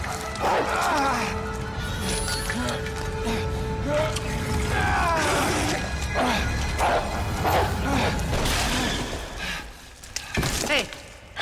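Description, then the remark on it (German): A zombie dog in a video game growls, takes a run-up and leaps at the player character, snarling amid a flurry of thuds and crashing impacts, loud, while a person talks over the struggle. “Er steht hinter uns, er knurrt bedrohlich, er nimmt Anlauf, springt uns an.”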